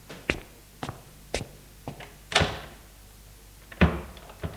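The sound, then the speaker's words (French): A man opens the door of his small room in a shabby, dirty hotel at 10 pm, with a series of sharp clicks and knocks, a louder rattling clunk midway and another solid thud near the end, against a quiet low hum. “Il ouvre la porte de sa chambre.”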